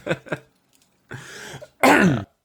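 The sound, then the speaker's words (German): Two quick coughs, then a rough, drawn-out throat clearing and a final loud, harsh cough-like clearing, all without any speech. “Ja, irgendwann wirst du bei uns gar nicht so verstehen vor lauter Husterei und Räusperei und.”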